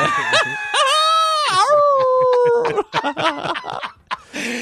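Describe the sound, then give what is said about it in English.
A person lets out a drawn-out, wavering imitation of a wolf howl, loud, lasting a couple of seconds before breaking into short, choppy vocal sounds. “The wolf call?”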